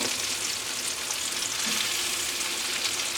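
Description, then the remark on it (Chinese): Meat sizzles steadily in a hot pan turned up to high heat to crisp it and render out its fat, a loud, continuous crackling hiss with no pauses and no voices. “之后呢，我们再转大火，让它抢酥，然后同时也逼出它的油脂，这样的话就可以起锅了。”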